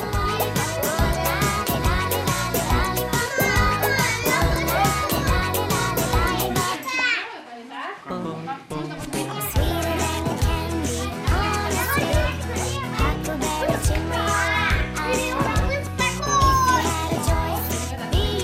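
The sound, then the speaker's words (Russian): Children play and squeal while swinging in a piece of fabric hung on a rope, their high excited voices overlapping almost nonstop, with a short lull midway; no swing noise stands out. “Или эту ткань можно повесить на веревке, вот как у нас сейчас дети катаются, и ребенок может кататься в ней сам.”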